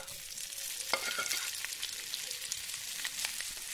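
Pork is seared hot in a frying pan with a steady, bright sizzle, dotted with sharp little crackles and pops and the occasional scrape of stirring. No one speaks.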